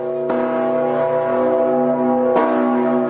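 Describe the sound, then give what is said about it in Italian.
The large bronze Peace Bell of Rovereto, Italy, first cast in Trento in 1924 from the bronze of cannons of the nations in the First World War, tolls twice about two seconds apart, each stroke leaving a loud, sustained low hum that rings on between strikes, with no voices. “Quelli che stiamo sentendo ora, invece, sono i rintocchi della campana della pace di Rovereto.”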